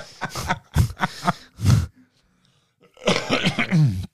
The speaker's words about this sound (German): Ich weiß gar nicht, wieso ich noch husten muss, weil hatte ich schon erwähnt, dass ich nicht Raucher bin?